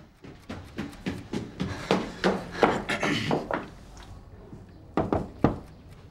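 In the morning, someone carrying a bouquet of flowers knocks hard on a singer's hotel room door: a long, insistent flurry of sharp raps, then a pause before a final quick group of three knocks. No voices are heard.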